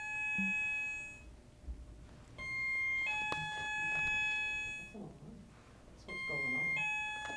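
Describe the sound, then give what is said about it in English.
An intercom buzzes in long, steady electronic tones, sounding three times in bursts of a couple of seconds each, prominent, while a person talks quietly underneath. “Intercom?”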